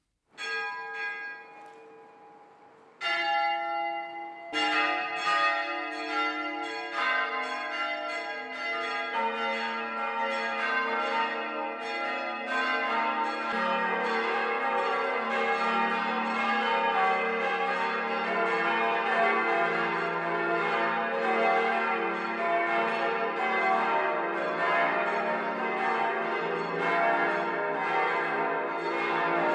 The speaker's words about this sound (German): Das Mittagsläuten kommt heute von der katholischen Pfarrkirche St. Andreas im unterfränkischen Karlstadt am Main.